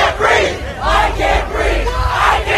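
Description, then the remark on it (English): A large crowd of protesters chants "I can't breathe" in unison outdoors, voices rising together in a loud, rhythmic repeated phrase with a steady beat, dense and continuous. “They were the same words chanted by protesters.”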